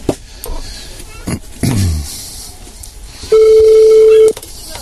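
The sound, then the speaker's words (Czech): A single steady telephone ringback tone of an outgoing phone call sounds for about a second near the end, clear and fairly loud, after some brief knocks and low rumbling handling noise. “Už to je, už to zvoní.”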